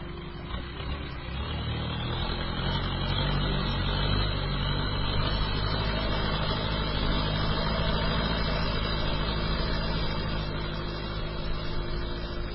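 A boat's motor, just started by the boatman, drones steadily for the whole stretch, a low rumbling hum with a constant pitch and no speech over it.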